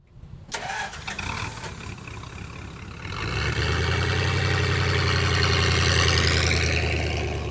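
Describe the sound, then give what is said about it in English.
A three-wheeled Dymaxion car engine cranks briefly, catches after a few seconds, and settles into a steady, loud, rumbling idle, with no voices. “the three-wheeled Dymaxion car, the back wheel turns, you know, like a rudder of a ship.”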